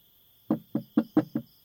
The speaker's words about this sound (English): Okay, I'll go to the bathroom, and once I'm done, I'll knock on the door and just tell me if you're done or not.